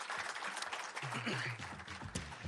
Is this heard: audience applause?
yes